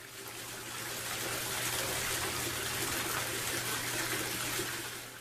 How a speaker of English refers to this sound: Back in the house, David takes his clothes off to take a shower.